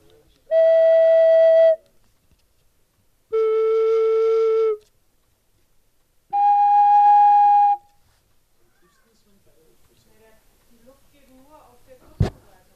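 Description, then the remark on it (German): Three steady, fairly high pipe whistle tones, each held about a second with short pauses between, shifting in pitch, followed by quiet rustling and a single sharp click near the end. “Also ist jetzt nicht, also die Länge der Pfeife steht, es passt nicht zu dem Ton, zu der Tonhöhe.”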